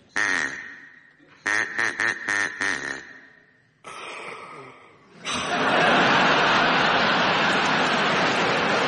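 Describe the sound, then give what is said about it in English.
A voice imitates a duck as 'Duck Vader' with nasal quacks: one short burst, then a quick run of about five, and a rougher drawn-out quack, before a loud, sustained audience reaction washes over everything. “It was Duck Vader, yes, well done.”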